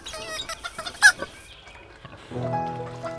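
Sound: chicken clucking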